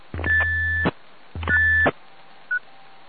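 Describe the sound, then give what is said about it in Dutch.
Two bursts of a steady whistle tone over a radio channel, each about three-quarters of a second with a buzzing carrier underneath, followed by a brief high blip; no one speaks. “Nou, bedankt voor de fluiter.”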